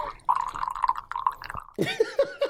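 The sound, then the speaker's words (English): Beer glugs and dribbles from a nearly empty bottle into a glass, a run of uneven gurgling pulses that thins into drips toward the end, followed by a brief voice. “Well, it was running out, so it dribbled. You had drips at the end.”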